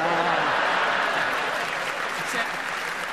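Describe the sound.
An audience claps steadily and fairly loudly throughout in response to a comedy panelist's facial expression, a dense, sustained wash of applause with a faint murmur of voices underneath.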